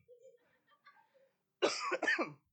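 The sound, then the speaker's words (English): A person coughs and clears their throat, a couple of quick rough bursts after a few faint quiet sounds, with no talking. “I need another cough drop. Bear with me for a second.”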